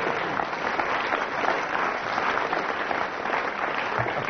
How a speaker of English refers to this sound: And we go on for the next round. Then I get a round of applause. I was right.